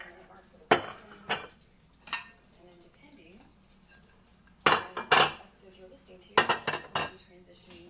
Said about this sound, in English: So I'm going to empty my dishwasher.